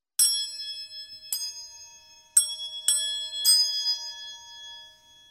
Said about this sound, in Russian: У нас тоже очень приятные голоса, сказали две чашечки. Одна из них была побольше, а другая поменьше. Но их ставили на стол вместе, и они подружились. Мы вместе можем сыграть песенку, сказали чашечки и зазвенели.